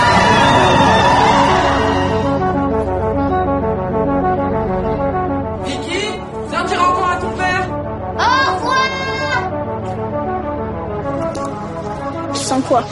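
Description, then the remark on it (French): Girls shout and cheer in several loud, high-pitched bursts over a steady, low droning tone that runs through the whole recording, in the trailer for the film Les Cinq Diables. “Allez, les filles, on crie, allez!”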